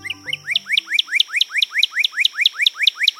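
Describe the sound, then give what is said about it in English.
A northern cardinal sings a fast, steady series of clear, rising whistled notes, about fourteen in three seconds, loud and even, with a brief low tone fading out at the start. “The clear, crisp song of a cardinal.”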